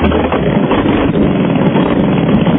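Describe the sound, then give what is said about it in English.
A parrot mimics a chainsaw starting up: a loud, rough, continuous motor-like buzz that holds steady for a few seconds, with no talking. “No way. Like he's got a chainsaw. Like a leaf blower. That's right, or a chainsaw.”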